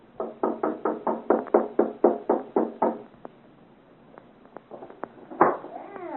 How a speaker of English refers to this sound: As you say, Chevalier. I have not heard. Knock again.